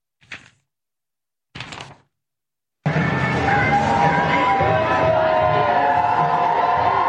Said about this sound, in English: cheering as the bus drives away. Yes, they're on a big bus tour this weekend.